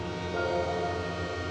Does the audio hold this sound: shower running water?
no